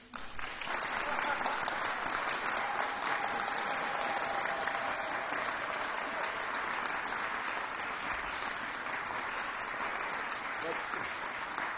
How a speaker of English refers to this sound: I'd like to ask all of you to express your affection for Rick with applause.